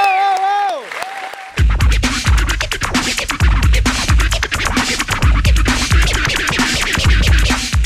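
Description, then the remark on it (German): A few gliding electronic tones give way to a loud burst of audience applause, dense clapping that continues over a steady, thumping low beat, as a freestyle disc player throws the disc into the air, spins three times and catches it between the legs. “Setzt in die Luft und Sie hören den Applaus.”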